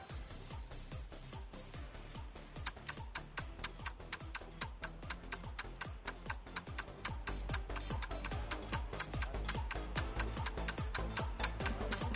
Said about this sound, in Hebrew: וכי, איך זה ממשיך? שעון מתקתק.